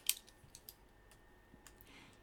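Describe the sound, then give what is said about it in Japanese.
Paper and a pen being set out to keep a count: a few light clicks and soft taps scattered across a quiet stretch, with no one speaking. “紙とペンも用意してと”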